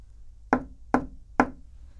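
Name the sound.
knocking on a door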